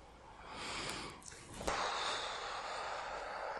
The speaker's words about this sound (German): Empfehlenswert, genau das, was du machst, liebste Freundin, zu atmen und zur Ruhe zu kommen.